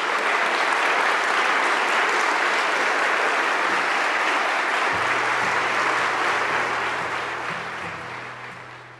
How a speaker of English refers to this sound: So I'd like to ask all of you to please give our panel and those who have participated a round of applause for them.